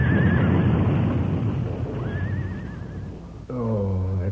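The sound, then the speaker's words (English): A horse hitched to a buckboard whinnies loudly and shrilly as it rears and backs up over a rough, rumbling commotion as the buckboard overturns, then a second, lower neigh rings out as the clatter drops away. “Fool horse. The way he reared and backed up, I jumped off that buckboard just in time.”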